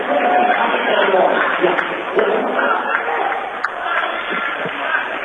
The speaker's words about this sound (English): Emotions running high on the court and in the crowd. It is a packed house. You've got Dort students here, Dort parents here, a lot of alumni making the trip, and a full Trinity student section.